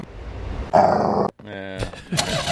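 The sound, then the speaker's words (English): A person vocally imitates an internal combustion engine starting, with a rough growling sputter followed by a brief pause and a buzzy, rising drone, loud. “Sam Morey patented the internal combustion engine”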